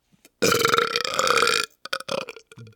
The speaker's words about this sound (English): What was that sound of, what was your burping again? Well, bro, that was a loud sound.